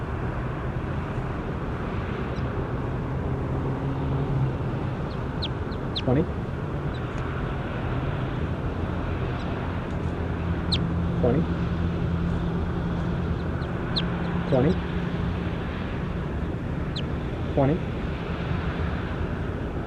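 bird, bird call

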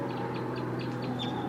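bird, wild birds calling

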